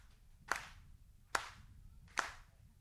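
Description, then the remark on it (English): Three hollow, cupped-hand claps demonstrated in a hand-clapping lesson, four fingers held together and slapped into the other hand's cupped palm, evenly spaced a bit under a second apart. Each is a sharp, moderately loud pop over a low background hum, with no talking. “And take the other hand and kind of put a cup in it and beat those four fingers right in that cup like this.”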